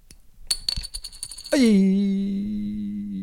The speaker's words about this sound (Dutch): Nee, ik gooi hem nog op. Ik liet hem even vallen. En dan, ik vind trouwens een echt muntje klinkt beter hoor. Dat is een plastic ding.